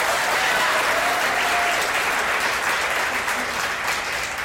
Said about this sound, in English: So a round of applause for Rhonda, please.